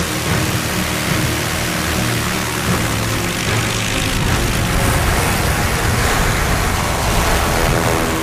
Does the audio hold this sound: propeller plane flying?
yes